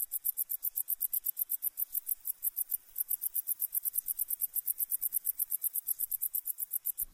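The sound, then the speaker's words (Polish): A wart-biter bush cricket sings on its own in a steady run of rapid, sharp high-pitched ticks, like a fast clockwork mechanism, continuing without pause at an even volume. “Łatczyn brodawnik jest gatunkiem ciepłolubnym, odzywającym się jedynie w słoneczne dni lata.”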